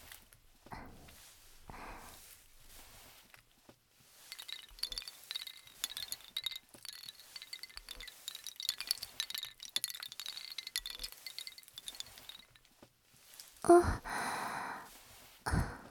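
Bright, high wind chime tinkling rings on for several seconds with overlapping shimmering tones, fading near the end, followed by a louder, brief rustling burst.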